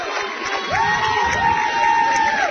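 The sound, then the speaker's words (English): A large crowd at a high school game, visiting Round County fans and the home crowd across the way, cheers loudly and steadily, with whoops and shouts rising over the continuous roar and a whistle-like tone sweeping through the middle. “County always travels well. Nice crowd, home crowd across the way.”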